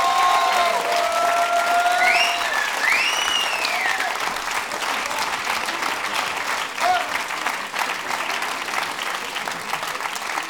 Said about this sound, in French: Un tonnerre d'applaudissements pour eux, s'il vous plaît.